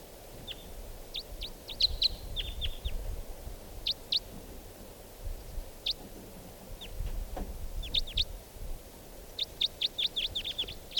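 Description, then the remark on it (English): Sharp, high chip calls of wild crossbills come in scattered bursts and quick clusters of several notes: a lone type 2 bird with a type 4 bird joining it, their calls mixing, over a low rumbling background and no talking. “Here's that one lone bird. And a type 4 bird has just joined with it.”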